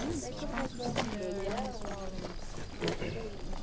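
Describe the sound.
A few sharp clip-clop hoof strikes from horses sound irregularly beneath steady talking outdoors, with the hoofbeats fairly faint against the voice.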